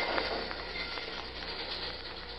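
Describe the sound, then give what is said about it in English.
A train rolls past a crossing, a steady, loud rumble mixed with rattling and faint metallic clinks, holding constant throughout with no voices. “Now, lie low till the train goes past.”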